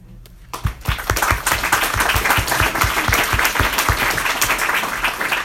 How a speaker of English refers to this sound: And so, once again, I'd like to applaud our officers for all that they do and you know, the millions of things they put up with every day.